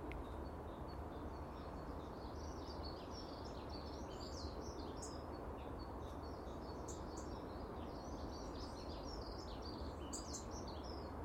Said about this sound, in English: It's lovely to hear the birds.